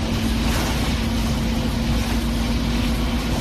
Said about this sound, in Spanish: Qué bien suenan los autobuses en Santiago, perfectos para no quedarte dormido en el bus y que no se te pase la parada, porque por hacer hacen más ruido que un avión despegando.